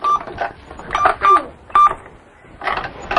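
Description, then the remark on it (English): A toy cash register gives several short electronic beeps at irregular intervals, mixed with plastic clicks and button presses, fairly loud, with faint background noise between. “Where's your cash register?”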